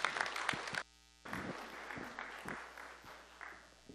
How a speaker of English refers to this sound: So can we just give him a round of applause as a thank you for coming this morning?